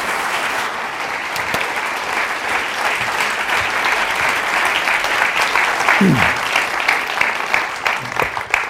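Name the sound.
audience applause welcoming speakers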